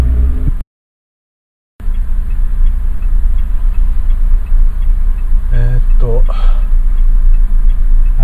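Steady low road rumble and engine hum of a car driving through heavy traffic of leisure cars and business vehicles, on the way to Miyoshi Pond, constant, with a short silent gap early on and brief murmuring sounds later.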